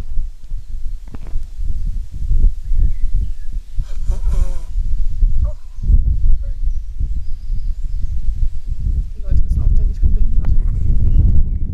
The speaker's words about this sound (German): Einmal Nase putzen. Das tut mir jetzt nämlich richtig leid, weil das wird laut.